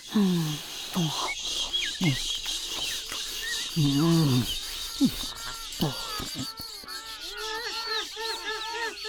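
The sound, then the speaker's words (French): Gulls squawk and cry repeatedly as they circle over the sea, over a steady rush of background noise, their harsh calls overlapping, some loud, others thinner. “Les gabions piaillent. Ils ont l'air contents.”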